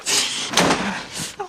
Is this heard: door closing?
yes